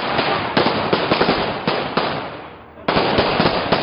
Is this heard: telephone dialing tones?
no